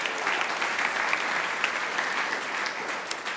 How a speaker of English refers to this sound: So that, yeah, you can clap for that. That was awesome.